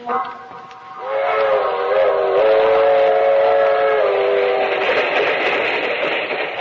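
A long, sleek passenger train, the Southeast Limited, rumbles steadily along the rails while a loud, sustained whistle blows over it for several seconds, the roar swelling as the train approaches.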